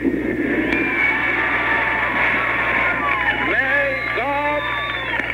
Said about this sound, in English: Well, before a crowd in excess of 100,000 in a pouring rain at Battery Park, Koch got what he wanted.